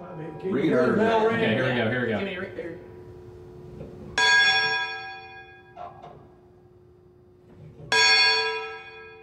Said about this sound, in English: but I was not above ringing the bell and feeling delight at ringing the bell.